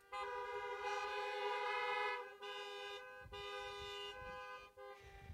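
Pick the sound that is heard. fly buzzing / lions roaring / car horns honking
car horns honking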